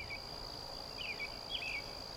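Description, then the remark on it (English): A steady high-pitched insect drone fills a quiet, lush forest on Earth, with a few short chirping calls rising and falling above it, no voices present. “Lush forests.”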